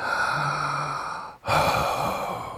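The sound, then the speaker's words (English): A long, breathy yawn while stretching, with a low voiced groan at the start, a brief pause for breath, then a second airy exhale, fairly loud, with no talking. “Do you realize how invigorating and freeing it is to stretch and yawn?”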